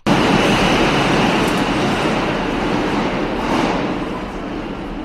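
train

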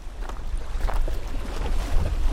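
sea waves

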